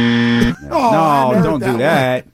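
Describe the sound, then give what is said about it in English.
A loud, steady air horn blast lasts about half a second. It is followed by a wavering, voice-like honking sound that rises and falls for nearly two seconds. “So yeah, man, air horns for the musical.”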